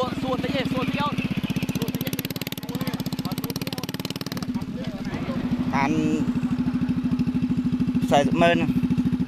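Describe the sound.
Several motorbikes loaded with wood idle and rev on a main road, a steady throaty putter with pitch rising as they pull away, while people talk over the engine noise.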